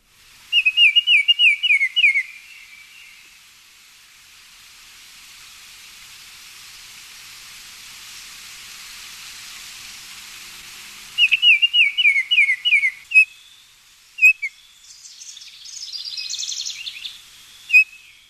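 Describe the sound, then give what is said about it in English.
A Baltimore Oriole sings two bursts of rapid, clear whistled notes several seconds apart, followed by a few scattered whistles and chatter, over a steady soft hiss of background noise. “since I happen to have audio of Baltimore Orioles here, let's take a listen to that.”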